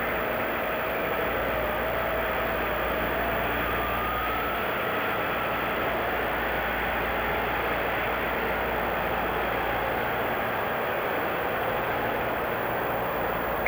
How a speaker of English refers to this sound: Now, as you see coming in, the motorcycle escort and the limousines behind that.